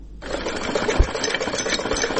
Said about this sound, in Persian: با صدای ماشین خیاطی دختر جوان آغاز میشه که به حد نگرانی دارد.